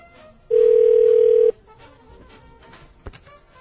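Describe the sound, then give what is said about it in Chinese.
A steady, loud telephone tone sounds for about one second while a phone call is being placed, a single unbroken mid-pitched beep, followed by quiet line noise and a couple of faint clicks. “我们现在打给金刚螳螂， 太感人了， 对啊，打给他，我们要打给金刚螳螂，他给了我们一个摄影机。”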